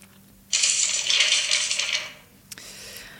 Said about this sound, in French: Des feuilles de papier. Quelqu'un qui est en train de déplacer des feuilles de papier.